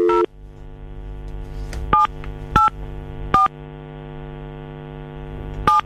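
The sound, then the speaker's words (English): A series of short telephone keypad tones beeps at irregular intervals over a steady low electrical hum, as the radio station Silk 106.9 in Cheshire dials an outgoing call to a contest winner; no one speaks. “So let's call Millie right now, shall we?”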